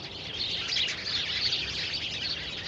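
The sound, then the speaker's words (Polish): A steady, busy chatter of sparrows chirping together as they fly off, continuous throughout with no voices present. “Jako rzekła, tak się stało, wróble w ciszy grzecznie stały, w dzióbki wzięły zaproszenia i do miasta poleciały.”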